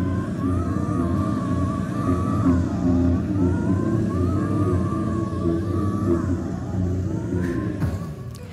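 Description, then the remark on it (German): A ghostly grumbling sound effect from a black-and-white ghost figure in Eleanor Kopka's contribution: a steady, deep rumbling growl with wavering, moaning tones drifting over it, holding an even loudness throughout without any speech. “Die grummelt erstmal noch recht harmlos vor sich hin, aber dann komme ich näher.”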